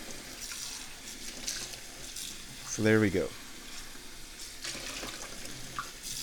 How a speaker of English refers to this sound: Washing dishes as I go, because that's just good radio.